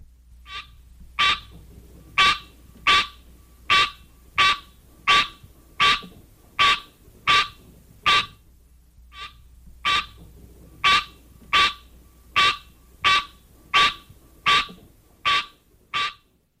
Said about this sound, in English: One parent, the green tree frog, Hyla Scenaria, has this call.